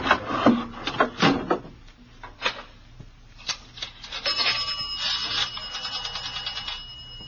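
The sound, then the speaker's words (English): A telephone on a dock being dialed: a few sharp clicks and handling knocks, then a rapid ratcheting whir of a rotary dial spinning back, without any voices. “Well, I'm going to call in from the phone on the dock.”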